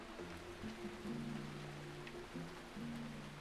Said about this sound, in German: Aber wann hört's auf zu regnen? Nein, es regnet jetzt die ganze Zeit. Das ist nicht schön.